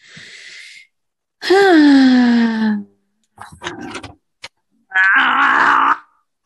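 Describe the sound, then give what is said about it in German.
Someone strains and groans in several effortful bursts, a long falling moan, then breathy grunts and a final tense, wheezing push while struggling to twist open a stubborn pickle jar. “Musst du erst das ein Wegglas öffnen? Das Gurkenglas.”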